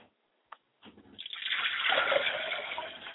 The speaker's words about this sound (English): Now, we pour libations to the east and we say Ashe. We pour libations to the west and we say Ashe. We pour libations to the north and we say Ashe.